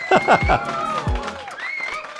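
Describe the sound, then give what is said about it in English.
A licensed library sound effect of a stadium crowd cheering, a dense wash of overlapping voices with a few louder shouts rising and falling early on, then a steady roar that carries through to the end. “They started with generic crowd sounds. We have licensed library sound effects from stadium recordings from, you know, 60,000, 30,000, 20,000, 5,000, and maybe even just 300.”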